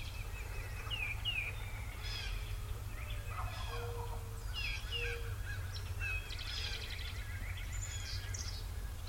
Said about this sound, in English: Hear that? Now the sun's hitting her again. And that hen started to crank up.